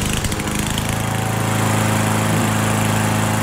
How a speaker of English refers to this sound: Yeah. Lawnmower. Right on lawnmower.